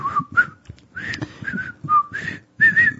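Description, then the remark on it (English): A person whistles a bouncy TV theme tune for a guess-the-tune game, with clear pitched notes in short melodic phrases separated by brief breathy pauses and no talking. “Now take down your fishing pole and meet me at the fishing hole.”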